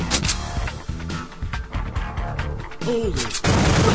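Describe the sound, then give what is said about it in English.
Two sharp, booming video-game gunshots, fired at a thug, crack in quick succession, followed by a busy stretch of clattering game effects, a brief warbling tone and a loud hiss of noise at the end. “Now, as soon as it started, I had already shot one, so the next one that comes up, I'm going to shoot twice.”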